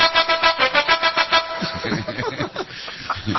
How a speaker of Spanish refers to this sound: Ahora, si uno sigue la melodía, tiene que quedarse pegado a la bocina para que la obra continúe.